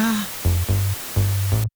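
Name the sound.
TV static white noise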